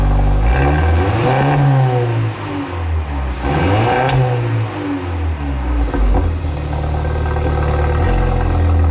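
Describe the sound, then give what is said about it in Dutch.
A small grey car's engine revs loudly up and down several times, its pitch sweeping high then dropping back to a rumbling idle, continuous with no talking. “Wat heeft deze auto wat mijn auto niet heeft? Een ster.”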